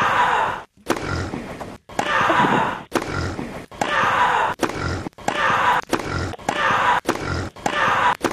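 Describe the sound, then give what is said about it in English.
A voice imitates an animal tennis rally between Serena Williams and a pig, alternating strained player grunts with pig-like snorts and squeals in a quick, steady back-and-forth of about nine loud bursts separated by brief silences. “Serena Williams and a pig on animal tennis with a rally, yes?”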